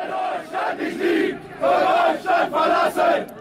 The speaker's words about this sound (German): Wer Deutschland nicht liebt, soll Deutschland verlassen, grölen die Hooligans unter den Demonstranten in Düsseldorf.